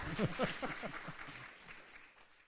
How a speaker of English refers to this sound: Yeah, they're so good about clapping. Look at this.